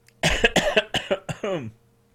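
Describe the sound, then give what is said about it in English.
A loud burst of several rapid coughs in quick succession from a person with a rough throat, ending in a raspy, strained throaty sound, then silence. “sorry for the coughing, by the way.”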